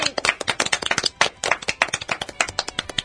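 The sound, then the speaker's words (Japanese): A small group claps steadily for about three seconds, dense overlapping hand claps at close range with no voices, a brief round of applause. “ね、知ってる就活、今日で、おかげさまで第265回目の拍手。”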